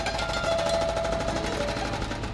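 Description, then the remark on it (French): Jackhammers pound in the streets of Brussels in a rapid, continuous rattling burst, loud and steady across the whole moment, with a faint whining tone riding over the harsh mechanical hammering. “On peut entendre les doux ronflements des marteaux-piqueurs.”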